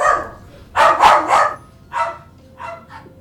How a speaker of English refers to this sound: And there go the dogs again.